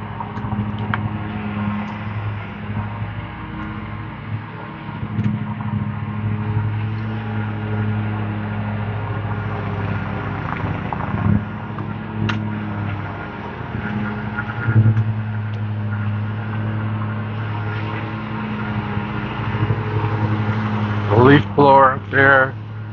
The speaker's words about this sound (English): Guy in his riding lawnmowers, running around in circles, grinding up leaves. A huge plume of dust.